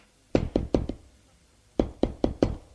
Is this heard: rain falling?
no